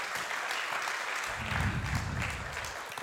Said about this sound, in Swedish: Vi ger dem en applåd, va? Grabbarna, underbart.